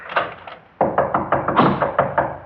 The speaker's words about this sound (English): Now you unlock your lock.